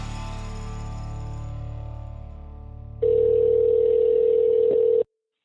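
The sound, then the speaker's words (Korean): A telephone line tone on a call placed to Ace Smart Restaurant Supply in Dallas, United States: a fading, humming ring for a few seconds, then a loud steady electronic tone for about two seconds before it cuts off abruptly. No voices. “제가 미국에 전화해서 그 대화를 녹음을 해서 제가 들려드리겠습니다.”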